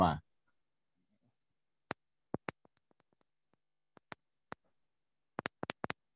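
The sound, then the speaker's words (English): Sharp clicks of a volume button being pressed to turn the volume up, coming in irregular bursts: single clicks with pauses, then a quick cluster of several presses near the end, with faint softer ticks between. “We can hear you clicking your volume up.”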